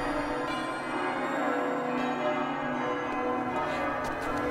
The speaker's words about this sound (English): Oh, listen to the church bells. They're beautiful.